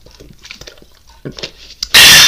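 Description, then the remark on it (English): Quiet sipping of water, soft wet clicks and small swallows over about two seconds, ending in a sudden loud, harsh rush of noise right at the microphone. “Take a sip of my water.”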